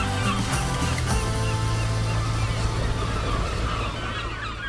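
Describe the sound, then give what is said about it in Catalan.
A moored ship creaks and groans at the end of the south dock of the port of Barcelona, near the airport runways, drawn-out honking moans rising and falling over a steady wash of water and wind, continuous. “Som a bord del vaixell Sea Star que grinyola al final del moll sud del port de Barcelona.”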